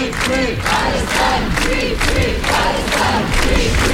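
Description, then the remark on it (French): A large crowd at a rally in front of the city hall in Lyon, protesting Israel's arrest of the humanitarian ship Madeleine and its crew, chants in unison, loud and steady, with repeated rhythmic shouted phrases rising and falling about every half second over a constant wash of voices. “une foule massive était rassemblée à Lyon devant l'hôtel de ville pour protester”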